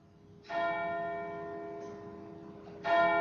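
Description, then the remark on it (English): A deep church bell strikes twelve o'clock in a dramatisation of Charles Dickens's The Chimes, each heavy stroke ringing out with a long, shimmering hum; two clear strokes land about two seconds apart, loud and resonant, with no voices. “And seeing as the last time they struck an hour, they struck 11, so now they're going to strike 12.”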